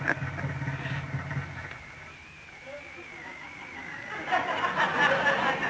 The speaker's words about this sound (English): Oh, another thing about these cars, they splutter now and then. For no reason.